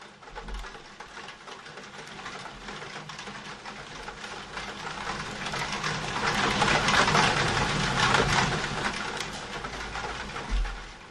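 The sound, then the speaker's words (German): Raindrops patter densely and steadily against a roof window in a thunderstorm, a continuous fine rattling that swells louder midway and eases off toward the end, with no voices. “Vielleicht hört ihr die Regentropfen ans Dachfenster klopfen.”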